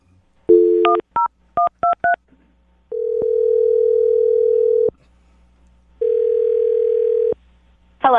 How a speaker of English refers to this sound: I'm going to dial the phone number right now and get her on the phone and find out why she's not calling you back. Here we go.